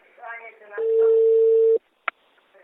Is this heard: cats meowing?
no